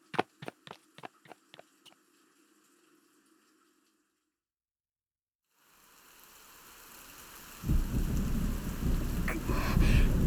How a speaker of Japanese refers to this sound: 雨足がさらに強く。まさか、ここまでの荒れ模様になるなんて。もはや嵐のよう。